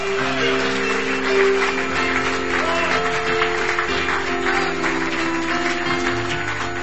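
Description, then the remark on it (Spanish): Loud, sustained applause from a large church audience applauding God, a dense steady roar of clapping lasting several seconds over held keyboard chords that change near the end. “Dale el aplauso fuerte a tu Dios.”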